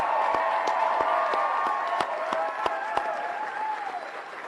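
A crowd at an evening campaign celebration in Georgia applauds steadily to thank the campaign team, dense clapping with a few sharper individual claps standing out and some faint cheering mixed in, holding at a fairly loud level before easing slightly at the end.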